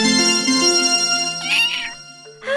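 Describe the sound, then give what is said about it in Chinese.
A small kitten, the family's new pet named Princess Mimi, lets out a few high, thin meows, the cries rising and wavering over a soft musical background, with a brief pause before another short mew. “好可爱的小猫咪哦！”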